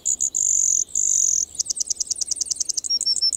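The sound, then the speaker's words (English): A Brewer's Sparrow sings a long, high-pitched song: sustained buzzy trills give way to a rapid series of chirping notes, clear with no talking. “While most birds offer a melody, the Brewer's Sparrow seems to perform an entire aria.”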